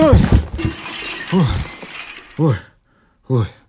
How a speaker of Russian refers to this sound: Сначала упал в канаву мешок, а вслед за мешком прямо на все эти вещи нырнул и я. И хотя я был легкий, тем не менее я ухитрился разбить все стаканы, почти все тарелки и глиняный рукомойник.